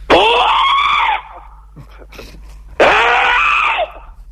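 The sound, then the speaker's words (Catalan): Two loud, sustained kiai shouts of about a second each, the kind of forceful shout yelled in martial arts training, separated by a short pause with faint background noise. “Pero es difícil, el entrenamiento de ki hai es difícil.”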